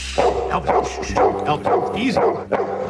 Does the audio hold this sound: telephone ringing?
no